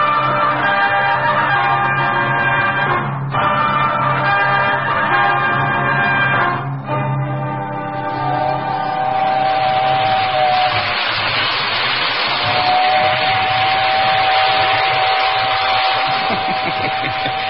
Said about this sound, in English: They sure do a fine job on electric trains these days. Never saw one as real as this.